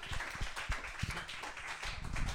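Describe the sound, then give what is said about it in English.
An audience claps steadily, a dense wash of overlapping hand claps with a few sharper individual slaps standing out, fairly loud and sustained for a couple of seconds with no voices. “Guys, clap it up for all of them.”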